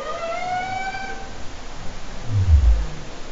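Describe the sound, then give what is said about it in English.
A humpback whale lets out a long, wavering tonal whoop that fades away, followed by a deep, rumbling, farty grunt, all over a steady hiss with no one speaking. “You know, humpback whales mainly are funny to me. I mean, they make these, since we're being non-scientific, very farty sounds and funny little whoops.”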